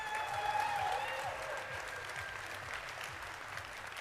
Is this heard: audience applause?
yes